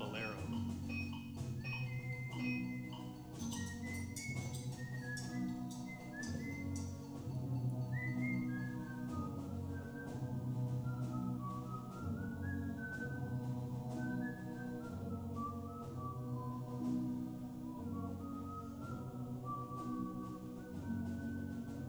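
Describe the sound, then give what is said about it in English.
A young man in Morocco whistles a wandering melody, the clear tones stepping up and down continuously over a dense, steady background of lower sound, moderately loud throughout. “In Morocco, amid the exotic scenery, strange, endless scales, and the wailing of the mullah calling the faithful to prayer, my brother was surprised to hear a young man whistling.”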